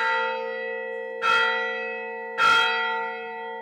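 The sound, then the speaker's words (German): A church bell of St. Catherine's Monastery (Katharinenkloster) on Egypt's Sinai Peninsula strikes noon for the midday mass: two heavy clangs a little over a second apart, each swelling over a steady, shimmering hum of overtones that keeps ringing between strokes. No one speaks. “Schlag 12 Uhr. Zeit für die Mittagsmesse im Katharinenkloster.”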